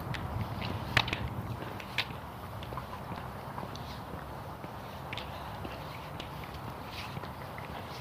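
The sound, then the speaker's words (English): Steady footsteps crunch over loose ground at a walking pace, each step making a gritty scrape from a rock caught in the walker's boot, fairly quiet, with no one talking. “It's crunching every time I step.”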